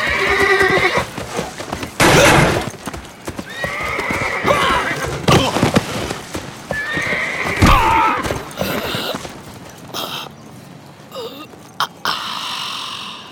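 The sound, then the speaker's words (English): A horse whinnies and snorts several times amid the thud and clatter of hooves, with a few sharp knocks and scuffles, loud, and no one speaking. “What do you want me to do about that horse?”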